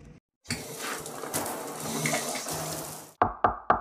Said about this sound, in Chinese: 哲明洗完碗却没关到水龙头